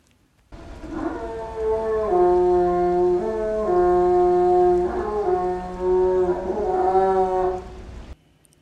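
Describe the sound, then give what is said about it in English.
Bernice, a female northern elephant seal, gives loud, sustained tonal calls in air, recorded in 2001, rich with stacked harmonics, shifting pitch in a few steps over about eight seconds with brief breaks between segments. “In air vocalization produced by Bernice, the female northern elephant seal, in 2001.”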